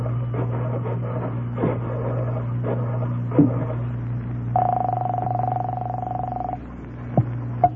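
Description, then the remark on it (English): A telephone in a candy store being dialed: scattered clicks and short mechanical taps, then a steady ringing tone that holds for about two seconds, all over a constant low electrical hum, with no voices. “There's a phone in the candy store here. I'll call him from there.”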